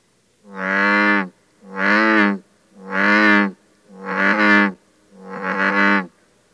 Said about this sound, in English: As a general rule, the pitch of advertisement calls is related to the size of the sound maker. For instance, our largest native frog, the bullfrog, reaches 6 to 8 inches in length and produces a low-pitched bellowing call.